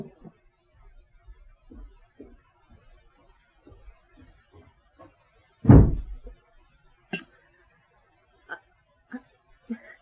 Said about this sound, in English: Bolt the house doors.